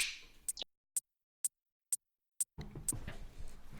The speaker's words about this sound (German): Ich schnipp's jetzt und dann schnipp's ich wieder und dann sind wir in dem zweiten Teil.